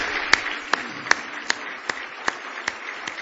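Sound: audience hand clapping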